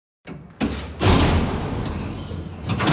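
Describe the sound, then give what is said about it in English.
A heavy prison cell door swings shut with a loud, reverberating clang after a brief scrape, and a bolt swivels; its metallic ring lingers and decays slowly. “The door closes with a heavy clang. A bolt swivels and Tupac's alone.”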